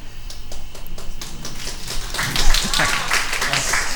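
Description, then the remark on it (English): Women in a church audience clap and cheer, a dense wash of hand claps and raised voices that swells and grows louder about halfway through, then holds steady. “That's all the women cheering for.”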